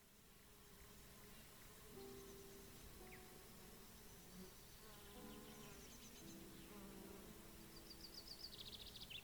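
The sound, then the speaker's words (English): Steady buzzing of several bees among lavender plants, their droning tones rising and falling over a soft outdoor background, with faint bird chirps high above. “The lavender plants are alive with bees and many colorful butterflies.”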